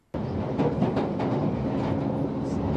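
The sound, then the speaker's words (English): A London Underground train rumbles steadily along, a dense low roar with faint rhythmic clacks from the track, starting abruptly and continuing at constant loudness with no voices. “This is the rumbling noise of the train.”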